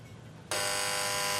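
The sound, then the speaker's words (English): After a moment of low background rumble, a door-release buzzer cuts in abruptly and holds a loud, steady, raspy electric drone rich in harsh overtones until the end, as a clerk behind a counter unlocks a door remotely. “The clerk unlocks a door remotely.”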